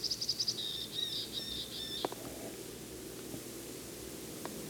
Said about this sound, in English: Just flew to another tree. Temperature's about 35 to 40. Sky is clear. Same bird and same tree. It's high up.